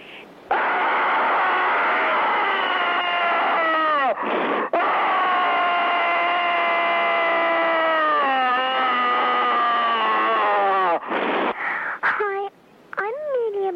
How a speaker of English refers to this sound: There's another screamer on the line. Just a minute.